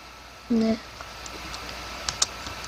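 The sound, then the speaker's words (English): A brief electronic beep, then light, irregular computer keyboard typing: soft scattered key taps ending with two sharper clicks, fairly quiet. “Such as you can make it look like he's typing it by doing this.”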